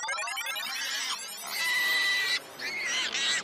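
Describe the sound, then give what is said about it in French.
Pigs at Amsterdam airport in the Netherlands, used there to keep birds away from planes, call in a fairly loud, almost continuous run of high, squealing grunts that overlap in a few bursts, with no one talking. “Ah mais ce sont des cochons.”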